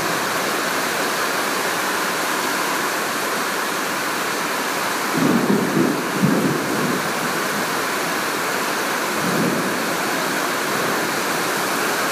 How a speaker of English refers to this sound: Anybody here saw me doing this and thought that I was recording the rain, they'd probably think I was crazy. There are parts of the world that would love to get this sort of rain.